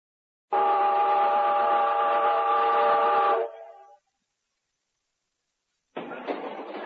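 A train sounds a long, loud, steady whistle lasting about three seconds, then fades. After a short silence, a burst of rattling train noise starts up at the end, with no talking.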